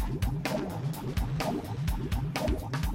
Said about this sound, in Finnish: kippis nyt kulautin!